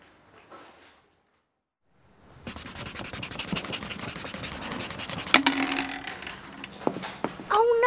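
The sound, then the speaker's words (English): Steady, scratchy rubbing of an eraser on paper, fairly loud, running for several seconds after a brief quiet pause, with a few sharper scrapes near the end. “Oops! Can I borrow your eraser, please?”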